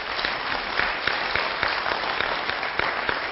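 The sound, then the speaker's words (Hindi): An audience claps loudly and steadily on request as a sign of happiness, a dense wash of many overlapping hand claps with sharper individual claps poking through, sustained evenly for a few seconds with no voices. “तो जोरदार एक बार ताली बजाइए।”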